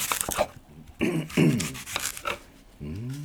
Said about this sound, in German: schneidet einen Apfel, während er sich einsingt.